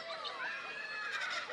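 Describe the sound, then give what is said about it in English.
A kookaburra calls in a park in a loud, harsh cackle of rising and falling notes that runs without a break for the whole moment, with no voices. “Kookaburra, he's angry.”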